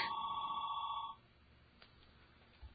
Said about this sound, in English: And we have a phone call? We have a call.